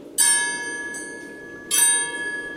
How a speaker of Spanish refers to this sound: Las campanas de las iglesias de Tortosa sonaban a lo lejos con un ruido monótono y triste.